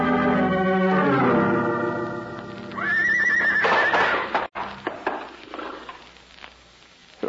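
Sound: horse neighing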